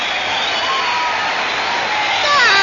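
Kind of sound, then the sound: sound effect, applause played on gramophone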